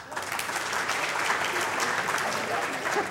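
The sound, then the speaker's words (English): Steady audience applause voting for the 'yes' side as winner of a debate, a dense crackle of many hands clapping at an even, fairly loud level for the whole stretch, with no voices standing out. “If you believe the winner of this debate was yes, please applaud.”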